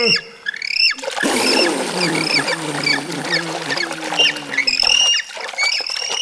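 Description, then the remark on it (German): A crowd of penguins at a zoo squawks and chatters in shrill, overlapping calls while being given a shower, a steady rush of spraying water hissing underneath, the noise loud and continuous. “Jetzt ist er jedenfalls bei den Pinguinen und gibt ihnen erstmal eine Dusche.”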